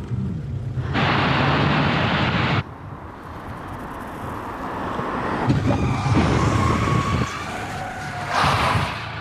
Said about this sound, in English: But which surface most closely replicates the stopping distance on an icy road? To find out, stunt driver Paul will drive at a moderate 40 miles per hour, then hit the brakes when his car reaches each surface. First up, oil.